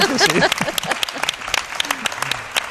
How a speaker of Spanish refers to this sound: te aplaude Elche. Los héroes, estos sí que son unos héroes.